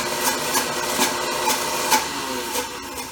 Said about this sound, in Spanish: Lo vas colocando tu aceite. Y el aioli se va haciendo cremoso. Vale. Ahí vas oyendo cómo la licuadora va más lenta, porque ya se va poniendo cremoso. Con una consistencia diferente.